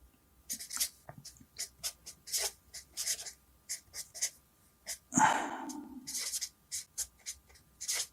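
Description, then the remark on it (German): A different pen is picked up and scratches across paper in short, quick strokes, with a slightly longer scrawl midway, fairly quiet, no talking. “So, und der braucht ja jetzt halt also ordentlich Futter und dieses Futter, da nehme ich am besten einen anderen Stift, das ist jetzt die Information.”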